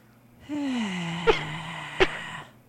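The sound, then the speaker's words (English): A little cough: two short, sharp bursts about a second apart, riding on a drawn-out, slightly falling voiced groan that fades after them. No one speaks. “The little cough was very convincing. That was real. That was a cough.”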